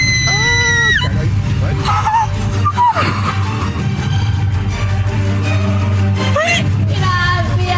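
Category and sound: human body sound, woman screaming excitedly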